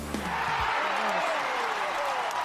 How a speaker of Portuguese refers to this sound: Palmas para todos de uma vez só, amigo, por favor.